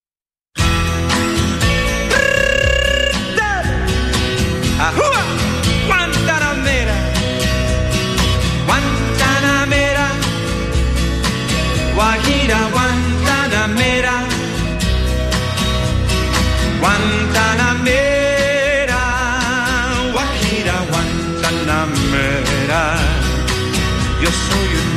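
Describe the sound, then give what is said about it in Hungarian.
Lively Cuban Latin dance music plays loudly and steadily, with crisp rhythmic percussion driving bright, ornamented melodic lines, all instrumental with no singing or talking. “A merítés végén hallgassunk egy kis ízelítőt a kubai dallamokból.”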